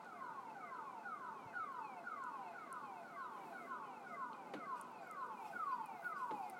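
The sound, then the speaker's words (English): The security alarm at the First Air building in town blares continuously, cycling through rapid, repeating downward-sweeping tones about twice a second, with no voices. “I don't know why they just don't get a silent alarm”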